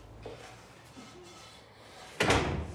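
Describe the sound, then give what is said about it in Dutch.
After a stretch of quiet room tone, a door opens or shuts as people go out, with a sudden loud wooden clatter that lingers briefly to the end. “glimlach verdwijnt wanneer ze de deur uitgaan.”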